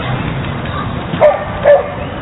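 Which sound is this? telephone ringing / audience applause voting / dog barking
dog barking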